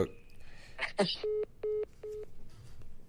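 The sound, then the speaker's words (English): A click on the line, then three short, evenly spaced electronic beeps, a phone's call-ended tone, sounding fairly clear over faint background noise. “That wasn't even like that was a real hang up.”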